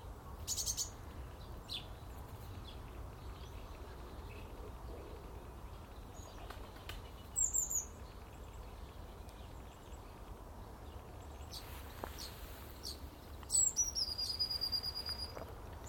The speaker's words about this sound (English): The birds were up early this morning.